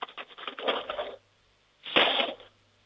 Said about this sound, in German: Jetzt bin ich mal gespannt, wie das klingt, wenn du die Bestecklade aufmachst und einen Haufen Löffeln rausnimmst und sie in die Bestecklade reinfallen lässt. Lärm ist doch immer gut, oder?